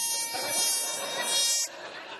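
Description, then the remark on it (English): A Taboo game buzzer blares in one harsh, steady, harmonic-rich buzz for nearly two seconds, then cuts off abruptly, leaving a soft background murmur. “He invents reasons to use the buzzer.”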